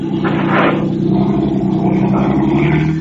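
A car engine roars, a loud steady rumble with a rising rev as the car drives off over a man lying in front of it, lasting the whole few seconds with no voices.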